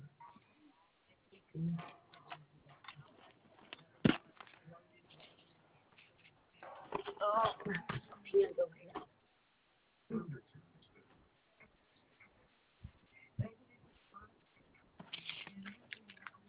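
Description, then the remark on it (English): Scattered rustling and shuffling with sharp clicks and taps as someone rummages for a pen to write down a cancellation number during a customer support phone call, coming in uneven bursts with brief quiet gaps. “Yeah, let me get a pen here.”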